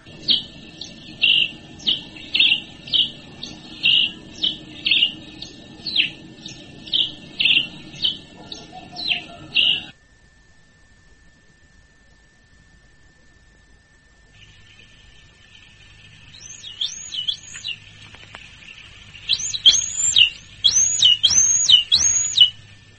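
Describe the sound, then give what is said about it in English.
Birds singing a dawn chorus: bright, high chirps repeat in a quick, steady rhythm, break off into near silence, then return as louder looping whistled phrases over a faint low rumble. “Well, this is their dawn song. This is their song saying thank you for a new day, probably.”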